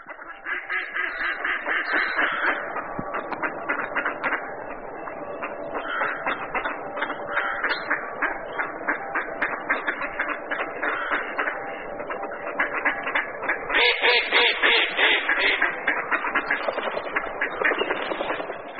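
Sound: mallard duck quacking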